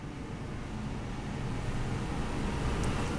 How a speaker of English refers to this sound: Go ahead, garbage truck, go by. He's here to pick up my podcast.